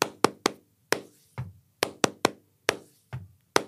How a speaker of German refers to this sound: Ja, zum Beispiel in einem Flamenco-Thema, sagen wir mal den Tango, also einen Viervierteltrhythmus, da würde man dann so klatschen. Also 1, 2, 3, 4.